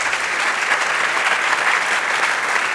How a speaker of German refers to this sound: Vielleicht können wir noch mal einen Applaus haben für dieses mutige Engagement.